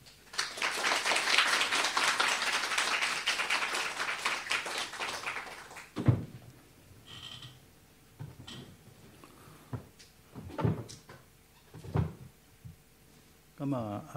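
An audience applauds for about six seconds, a dense, steady patter of many hands that stops abruptly. A few scattered thumps and soft knocks follow amid near-silence.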